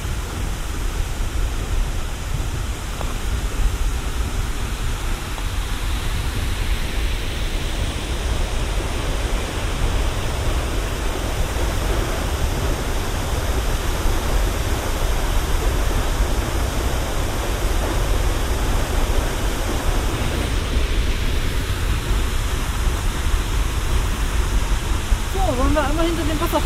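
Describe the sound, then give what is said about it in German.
The Seljalandsfoss waterfall roars steadily from a distance, a dense, even rush of falling water that fills the whole clip without pause, with a brief voice surfacing near the end. “weil man ja meistens mit größerem Abstand davor steht, hat der Seljalandsfoss dadurch einen deutlich räumlicheren Klang.”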